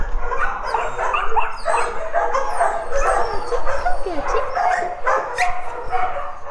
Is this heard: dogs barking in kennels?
yes